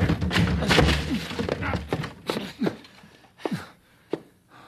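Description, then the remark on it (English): Men ram their shoulders into a stuck door again and again to break it down, a run of heavy, irregular thuds and bangs, with grunting and straining between the blows. “Blasted door. Come on, we'll break it down.”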